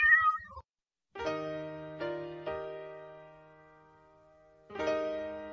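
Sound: cat meowing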